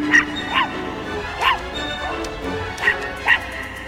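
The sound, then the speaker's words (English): A small white puppy, having pressed a red button, yaps five times in sharp, high-pitched bursts at uneven intervals, fairly loud and amplified through a boat's loudspeakers, over a steady low background hum. “A small white pup presses a red button and is heard over a boat's loudspeakers.”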